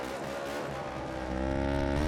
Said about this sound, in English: The parallel twin-cylinder engines have got such a unique tone.